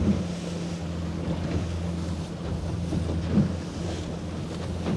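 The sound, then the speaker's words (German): A boat's engine drones steadily on a fishing outing while wind buffets the microphone and water slaps and churns against the hull in a rough swell, a continuous rough, rumbling wash with no one talking. “Leute, wir haben einen Wellengang, ey. Das macht gar keinen Spaß.”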